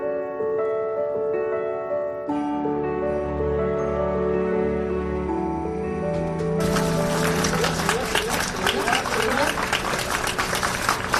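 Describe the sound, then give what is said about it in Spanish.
A sustained melodic passage plays, then a crowd breaks into dense, steady applause for the last few seconds as the coffin of actress Verónica Forqué arrives at the Teatro Español in Madrid, where her chapel of rest was set up; the clapping rises loud and continuous over the fading music. “Pues así, entre aplausos, ha llegado el féretro de la actriz Verónica Forqué al Teatro Español, donde desde las 11 de la mañana se ha instalado la capilla ardiente, que se ha mantenido abierta a todos los ciudadanos, al público en general,”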